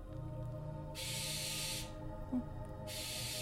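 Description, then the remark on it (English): A barn owl gives two long, harsh, hissing screeches, each lasting about a second, over a steady low rumble in the background. “That was a barn owl.”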